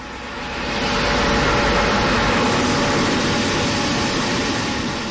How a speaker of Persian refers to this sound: ژنراتوری در کنار چادر قرار دارد تا برق مورد نیاز لپتاپ و پرینتر را تامین کند.